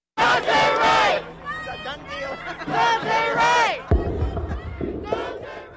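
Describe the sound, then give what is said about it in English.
Hundreds of protesters in the streets of Brooklyn Center, Minnesota, after the police shooting of Dante Wright, chant and shout in loud, rising waves of voices, with a brief pause before another swell of yelling. “In the following days, hundreds of protesters took to the streets.”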